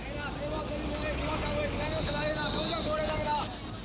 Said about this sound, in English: Vegetable sellers hawk their wares near the city center while ancient cars and buses choke the streets at evening rush hour. Bus conductors hustling fares and shouting destinations to would-be customers on the curb.